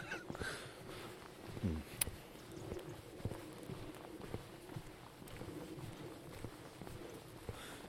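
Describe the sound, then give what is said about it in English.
Steady footsteps of a person walking along a path across a field over soft ground outdoors, a regular crunching rhythm with light wind and rustling in the background. “So you don't want to hear me walking, so I'll stop you for now.”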